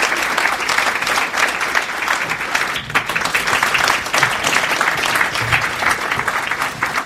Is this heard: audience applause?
yes